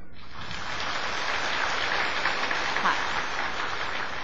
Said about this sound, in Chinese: 我们再度以热烈的掌声欢迎师父。